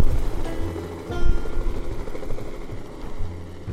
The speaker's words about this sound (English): Helicopter. Off she goes.